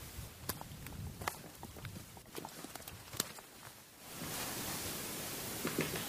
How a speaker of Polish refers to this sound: Gdzieś tu słyszymy dzięcioła. Tak, o. Na którym drzewie?